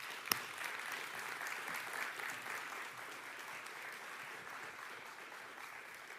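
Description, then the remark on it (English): A crowd applauds steadily for about six seconds as guests are welcomed onto a stage, a dense wash of many hands clapping at an even level, with one sharp louder clap near the start and no voices. “Let's give a little bit bigger round of applause, because this is a very, I don't know if you've ever sat on a stage with people staring at you when you're about to get vulnerable, but it's not an easy thing, I'm going to tell you.”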